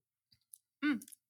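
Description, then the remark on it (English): A few faint lip or cup clicks, then a short first sip of a new decaf Colombian sugarcane-processed coffee with a brief voiced hum and a quick airy slurp trailing off, mostly quiet apart from that one burst. “Oh, here we go. First sip coming right up.”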